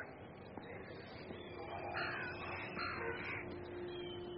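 Several harsh bird calls from kites perched on a wall in a city ring out in quick succession over a steady low background hum, with no one talking.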